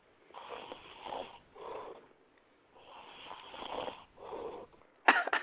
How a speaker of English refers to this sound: What I'm gonna do is pour the snore back in. Man, this is the snore. Listen, y'all listen.